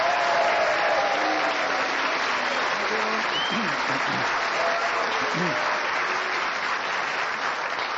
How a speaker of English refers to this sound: Thank you for the cheers and the booze. They both mean as much.